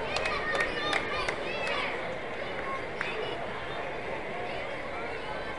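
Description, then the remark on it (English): A steady, dense murmur of a baseball crowd at a ballpark in San Antonio on a Tuesday fills the whole stretch, a broad babble of many voices with a few brief sharp claps or shouts standing out early on. “Pretty good crowd here on a Tuesday in San Antonio.”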